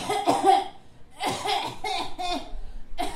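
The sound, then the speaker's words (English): A person fakes a series of exaggerated, theatrical coughs, several harsh bursts in quick succession with brief pauses between, fairly loud with no talking. “And then I would cough dramatically.”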